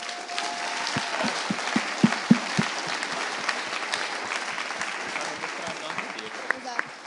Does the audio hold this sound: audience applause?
yes